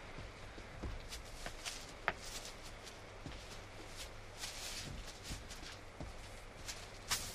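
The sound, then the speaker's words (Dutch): Slow footsteps crunch across gravel, each step a short gritty scrunch at an uneven, cautious pace, over a steady low background hum with no talking. “Ah, de deksel. Grind. Dat is niet best.”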